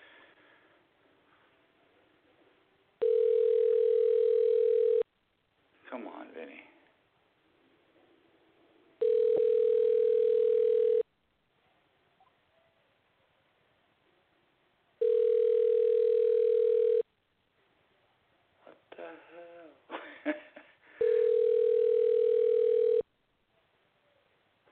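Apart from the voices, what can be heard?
telephone ringing tone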